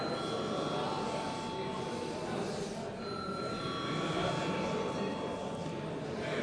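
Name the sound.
parliamentary voting bell ringing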